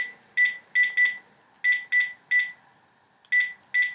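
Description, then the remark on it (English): A quick series of short, clear telephone keypad tones, about eight beeps in irregular bursts as a mobile number is dialed on a landline phone, fairly loud with quiet gaps between. “So I'm going to dial my mobile number.”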